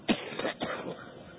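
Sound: coughing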